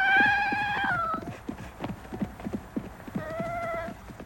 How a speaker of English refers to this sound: Here's Little Deuce whimpering. I could swear no bear on earth sounds that appealingly human and baby-like.